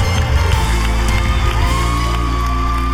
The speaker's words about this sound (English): And I hear you scream.